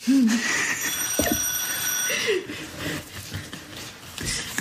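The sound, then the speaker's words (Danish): An alarm clock rings with a steady high-pitched electronic tone for about two seconds, then stops, while voices murmur and laugh lightly underneath. “Ja, så har uret ringet for sidste gang.”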